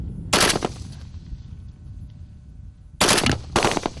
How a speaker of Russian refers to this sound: Учебная точка – это 4 рубежа мишеней. Их надо поразить короткими очередями или одиночными выстрелами, а затем поменять огневую позицию.